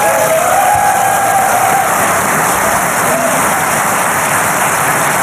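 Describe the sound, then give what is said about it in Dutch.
A large audience breaks into loud, sustained applause for David Icke, a dense wash of clapping without pause, with faint cheers and whistles rising above it. “En dat is, geef hem een applaus, dames en heren, de enige echte David Icke.”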